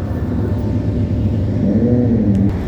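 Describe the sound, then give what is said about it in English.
Heavy road traffic rumbles steadily and loudly, with a motorcycle engine revving up partway through, its tone climbing above the constant low roar of passing vehicles. “There's some motorcycles in the background. There's a lot of traffic.”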